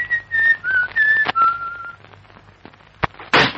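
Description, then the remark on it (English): A person whistles a short, wavering tune of a few clear notes for about two seconds, followed by quiet, a sharp knock as a door slams, and a brief burst of louder noise. “He was whistling. Whistling? Yes. Like this.”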